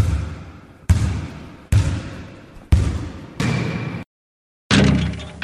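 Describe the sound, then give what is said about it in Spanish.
A basketball bounces in a steady rhythm, heard in the background on the school radio station Radio Colegio Virgen del Mar, each loud thump ringing out, with a short pause before the final bounce. “A todos los amigos de Radio Colegio Virgen del Mar, que nos escuchan y lo hacen oyendo de fondo el bote del balón de básquet, que tanto nos enamora.”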